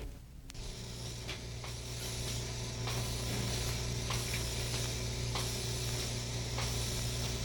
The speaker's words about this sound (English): Milking is going on in the cow barn. The milking machines are making their rhythmic, comfortable swish-pull sound. The cows are munching their grain ration in the same rhythm.